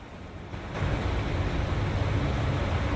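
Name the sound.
heavy rain hammering down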